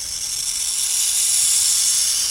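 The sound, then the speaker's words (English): A steady, harsh hiss from a burrowing owl, sustained and loud throughout, with bright sibilant noise much like a rattlesnake's warning buzz. No voices. “Standing on almost comically long legs, this yellow-eyed owl is very active in daytime, and its hissing habit may have evolved to mimic the sibilant warning given by a cornered rattlesnake.”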